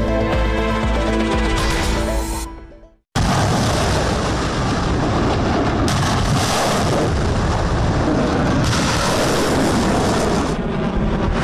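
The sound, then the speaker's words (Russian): A short musical passage fades to a brief silence, then loud, sustained artillery fire erupts during Chinese army drills in the Taiwan Strait: a dense, rumbling roar of blasts with occasional sharper surges, continuing to the end with no talking. “Армия проводит учения в Тайваньском проливе. Артиллерия, флот, авиация, пехота, десант – всех стянули к проливу между Китаем и Тайванем.”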